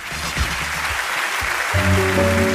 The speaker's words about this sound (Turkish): Buyursunlar. Alkışlar onun için.